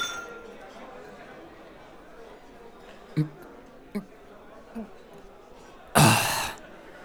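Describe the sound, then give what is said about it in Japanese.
Glasses clink together in a toast, one bright knock near the end following a few soft taps, all set against a steady murmur of many voices. “お疲れ様、乾杯。”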